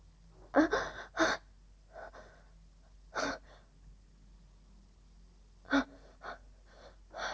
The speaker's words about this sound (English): I start gasping for air as he forces me down to my knees.